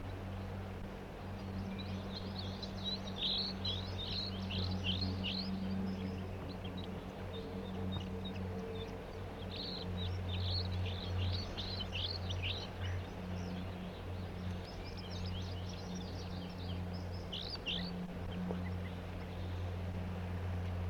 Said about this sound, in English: The flock is still here. One of the birds just chased by some kind of flycatcher and is off in the distance giving flight song type songs, and the other two birds are singing as well here, giving the typical flight song.